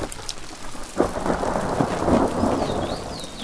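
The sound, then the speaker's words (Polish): A thunderstorm: steady, hissing rain pours throughout while a deep roll of thunder rumbles in after about a second and carries on, loud, with no voices; storms over Lake Łowieckie. “I na przykład w tym momencie akwen wodny zwany jeziorem Łowieckim jest właśnie w tej chwili pod oddziaływaniem burz i wysłałam ostrzeżenie o tych burzach właśnie klientom.”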